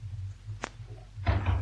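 door opening and closing

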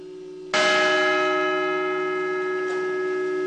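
memorial bell tolling

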